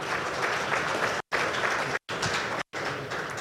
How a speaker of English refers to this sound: So if we can please give another round of applause to our panelists today. Thank you.